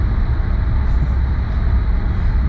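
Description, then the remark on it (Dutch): A loud, steady engine and road roar from inside a moving car as the driver presses the gas, deep rumbling noise that holds constant throughout with no voices. “Als je op gas geeft, dan vliegt hij weg.”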